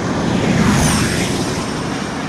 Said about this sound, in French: Voilà des formules E très rapides et pas totalement silencieuses comme on vient de l'entendre